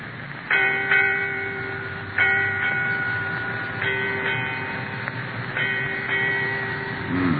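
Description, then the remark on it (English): A ship's bell aboard a ship strikes eight bells, eight times in four evenly spaced pairs, each clear metallic ring lingering and overlapping the next, with no voices. “Eight bells, Captain.”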